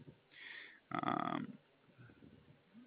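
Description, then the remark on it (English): A parrot lets out two loud, harsh squawks in quick succession, the second longer and more intense, followed by quiet room noise. “And here is a little parrot alert.”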